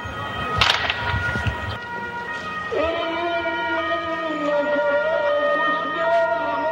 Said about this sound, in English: Gunfire, an ambulance rushes to the scene as an American tank burns on the main road to Fallujah.